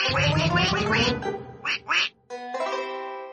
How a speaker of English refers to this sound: We have two ducks, one blue, one black. And when our blue duck goes quack, quack, our black duck quickly quack, quacks back.